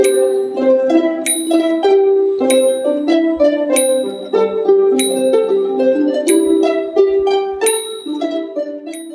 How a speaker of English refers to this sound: it was an anonymous songs since 18th century using by the timing bell and clapper is the songsi. Songsi means the clapper and the timing bell is played simultaneously the same time, play at the same time, so this is called the zongsi, right?